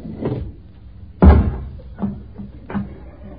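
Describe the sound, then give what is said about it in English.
A door is pushed against blankets stacked on its other side and won't budge, bumping and shoving against them with one heavy muffled thud in the middle and several lighter knocks before and after it. There is no talking. “You've stacked all them flaming blankets the other side of the door. It won't budge.”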